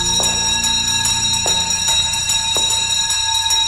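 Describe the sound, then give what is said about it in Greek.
An Athens tram bell clangs several times at uneven intervals, each bright metallic strike ringing on over a steady low rumble, loud with no voices. “Τραγκαντρούν το καμπανάκι.”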